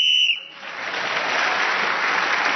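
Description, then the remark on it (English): A sharp, shrill whistle blast lasting under half a second, blown to end the round as Paul Merton was speaking, followed immediately by loud, sustained applause from an audience. “Paul Merton was speaking as the whistle went, gained an extra point for doing so, and other points in the round has increased his lead.”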